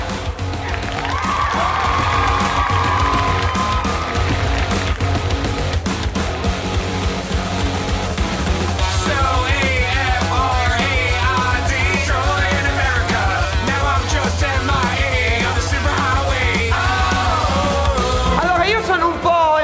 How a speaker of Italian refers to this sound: Non l'ho capito bene quanto siete carichi. Applausi.